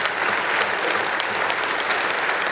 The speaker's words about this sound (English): Welcome to First Baptist Broken Arrow. Amen. You all clap. That's good.